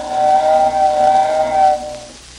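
A steam train whistle sounds one long, loud, steady toot lasting nearly two seconds, with a breathy hiss underneath, then fades into quiet rumble. No voices are heard.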